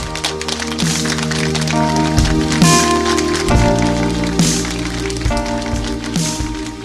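A crowd applauds steadily, a dense hiss of clapping that holds at an even, fairly loud level throughout while sustained music plays underneath.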